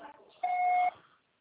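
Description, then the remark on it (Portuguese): A single steady electronic beep, a clear mid-pitched tone with a faint higher overtone, sounds for about half a second like an answering machine prompt, preceded by brief faint voice-like murmur. “Grave seu recado agora.”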